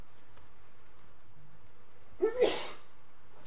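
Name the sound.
sneeze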